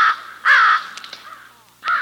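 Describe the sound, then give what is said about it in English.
A crow caws three times, harsh, raspy calls with short pauses between them, the middle caw loudest and longest, heard clearly with no voices. “Crows make a distinctive caw.”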